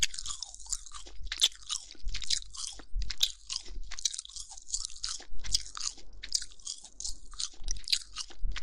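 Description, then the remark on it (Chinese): Wet chewing of juicy meat, with steady crunchy bites repeating about once a second, loud and intimate, with no talking over it. “接下来我要嚼喽。”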